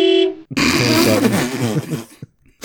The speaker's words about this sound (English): That is sort of that is the world's panic button is the car horn, really. Like I'm freaking out.